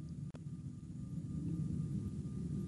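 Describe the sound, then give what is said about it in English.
A steady, low rumbling roar of a jet aircraft taking off over the building, muffled and fairly quiet, holding constant throughout with no voices. “It sounds like Air Force Two just took off over the building.”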